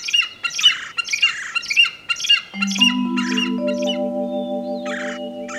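A large eagle screeches in a rapid run of harsh, raspy cries, loud. Partway through, a low sustained droning tone builds underneath as a few more screeches ring out.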